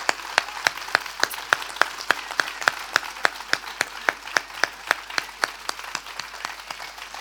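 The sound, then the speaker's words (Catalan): An audience applauds the speaker of the Corpus festival proclamation steadily for several seconds, a dense crackling wash of clapping with sharper individual claps popping out at a quick, fairly regular pace. No one speaks. “Jo crec que es mereix un altre aplaudiment.”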